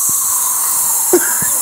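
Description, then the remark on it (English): A voice imitates an air freshener spray with a steady, bright hiss that holds for well over a second, broken by a few soft low thumps and a brief tonal blip near the end. “You got to spray the freshener after you're done.”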